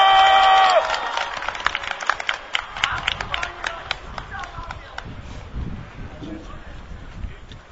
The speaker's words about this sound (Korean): 여러분, 다시 한번 격려와 응원, 함께한다는 박수와 함성으로 어머님을 모셔주십시오. 큰 박수 부탁드립니다.